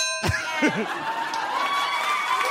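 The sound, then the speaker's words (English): A single bright ding sound effect strikes once and rings on with shimmering overtones that slowly fade, over a faint murmur of background voices. “I think you should only, please only address me in the form of dings and buzzes.”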